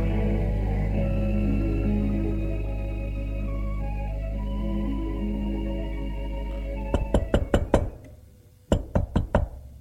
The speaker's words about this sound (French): On a frappé à la porte.